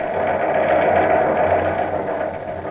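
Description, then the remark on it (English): Nine teletype machines in the Blue Newsroom clatter as they carry news in from every part of the world, a steady, dense mechanical chatter. The continuous buzzing rattle holds an even, fairly loud level throughout with no voices. “Do you know that there are 9 teletype machines carrying news to the Blue Newsroom from every part of the world 24 hours a day?”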